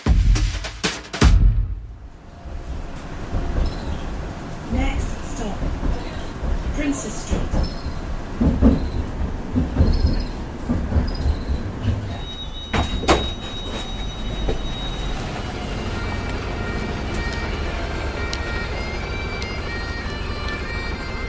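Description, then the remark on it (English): A tram in Edinburgh rumbles along steadily, with clunks and the whoosh of doors sliding open partway through, then a sustained mechanical hum as it idles; faint voices murmur in the background. “You couldn't ask for a better welcome to Edinburgh than to step off the tram and be serenaded by the pipes.”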